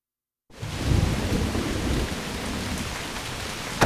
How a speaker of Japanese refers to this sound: ダメね、すごい嵐。とても外には出られないわ。 雨が止むまでおとなしくしてるしかないか。